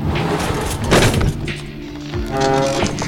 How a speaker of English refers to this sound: He slammed a drawer, then jumped with a curse, shaking out his hand.